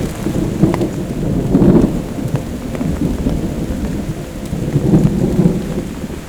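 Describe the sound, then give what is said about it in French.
Deep rumbling thunder from a light storm rolls through steady rainfall, swelling into louder booms twice over a few seconds, with scattered raindrop taps and no voices. “Les éclats du tonnerre.”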